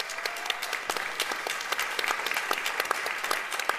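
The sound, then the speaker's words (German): An audience at the Eschbach-Halle claps steadily, a dense patter of many hands with sharp individual claps standing out, sustained at an even, moderate level throughout. “Dann einen ganz grossen Applaus auch für”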